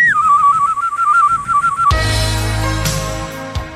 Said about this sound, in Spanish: Solo puje con fuerza y su llavero chiflará automáticamente al primer ruidito. Escuche este ejemplo. Es el nuevo llavero chiflador.